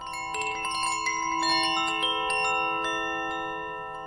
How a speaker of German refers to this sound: Die roten Kugeln beginnen leise zu klingeln.